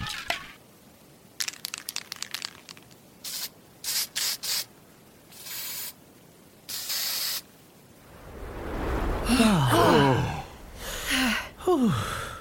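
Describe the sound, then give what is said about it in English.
An aerosol spray can hisses in a series of short, sharp bursts of varying length as it is used to seal something, followed by louder rustling and crunching noises with no one speaking. “I can seal it if somebody hands me a spray can.”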